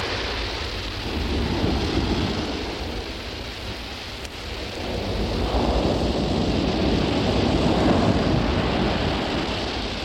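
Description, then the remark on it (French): Fine, cold rain begins, hissing continuously alongside gusting wind, with a low rumbling undertone; the downpour swells slightly louder in the second half. No one speaks. “Commence à pleuvoir, une pluie fine et froide, avec du vent.”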